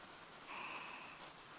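Steady rain falls with a soft, continuous hiss, briefly swelling a little louder in the middle before settling back, heard alone with no voices.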